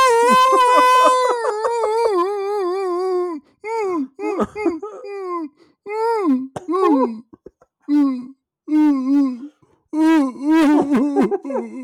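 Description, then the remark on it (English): A person imitates a wolf howling, opening with a long, loud, drawn-out tone that slides downward, then several shorter wavering howls with brief pauses between them. “You see the wolf walking to the top of the hill and he's making that noise into the sky.”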